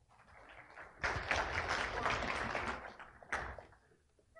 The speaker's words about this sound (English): So easy to get claps these days. All you just have to go on the stage and pour some water and you get claps.